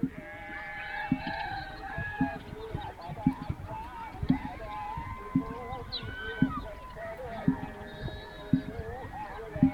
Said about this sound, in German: Bei Sonnenuntergang auf einer Düne am Rande der Stadt. Ziegen und Schafe werden heimgetrieben, verschwinden in den Höfen.